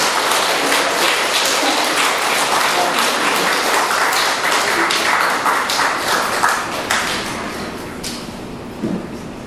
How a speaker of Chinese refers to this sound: 以热烈的掌声欢迎弘一法师跟南师傅老师。